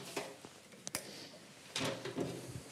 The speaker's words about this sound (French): Vous éteignez ? Oui, pour économiser un peu le gaz, tant que le petit est à la crèche.